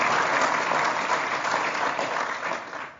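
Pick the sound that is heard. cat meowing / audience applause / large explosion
audience applause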